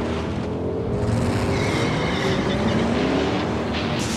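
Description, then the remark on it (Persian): The engine of a new 2015 sixth-generation Ford Mustang runs steadily and loudly as it is driven, its low rumble rising slightly in pitch as it accelerates, with road and wind noise filling the background and no one speaking. “از اسبی تیستک به اسبی بسیار وطنی، میریم سراغ فورد مستنگ مدل جدید”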